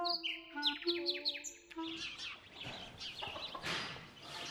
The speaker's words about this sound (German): Selbst heute, Ende November, lärmen hier die Spatzen. Der Stall kommt mir ziemlich luftig vor.